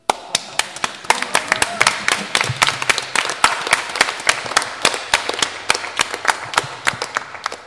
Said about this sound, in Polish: Ja tak myślę, że może złożymy takie krótkie oklaski dla Jezusa.